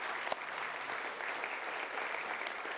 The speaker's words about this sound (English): but would you give him a round of applause for playing for us as often as he does?